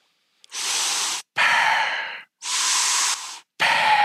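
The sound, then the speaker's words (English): A voice imitates Darth Vader's heavy mechanical respirator breathing: four loud, rasping breaths alternating in and out, each lasting under a second, separated by brief pauses, with no speech. “It's my best Darth Vader.”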